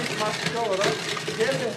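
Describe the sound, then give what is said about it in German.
A soft, crumbly rushing hiss from a gantry-type 3D house printer steadily applying wet concrete layer by layer through a spray nozzle, with a faint whining tone drifting through it and a voice murmuring alongside. “Das krümelige Rauschen kommt von dem feuchten Beton, der hier durch eine Spritzdüse Schicht um Schicht aufgetragen bzw. gedruckt wird.”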